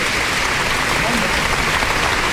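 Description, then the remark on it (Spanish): A crowd applauds a religious brotherhood (hermandad) that has gone out into the street, clapping steadily for a couple of seconds, a dense, crackling wash of many hands at an even, fairly loud level, with a faint murmur of voices mixed in. “Y otro aplauso más.”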